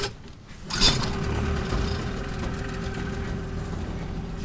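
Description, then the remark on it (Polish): A boat engine idles steadily with a low, rumbling drone that continues throughout, preceded by a brief bump or clunk near the start; no one speaks. The boat's engine is retracted, and the boat is in port, about to head out onto the Oder River on its maiden voyage. “Schowany silnik.”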